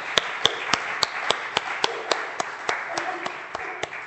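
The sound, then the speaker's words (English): A crowd applauds steadily for about four seconds, a dense patter of hands with a few louder, evenly spaced claps standing out. “So a round of applause for them.”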